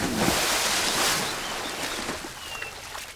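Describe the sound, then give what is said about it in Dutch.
A big splash as Pumbaa jumps from a log into a river, a loud burst of churning water that settles into softer sloshing and trickling over a few seconds. No voices are heard. “Met een enorme plons springt hij van de boomstam in de rivier.”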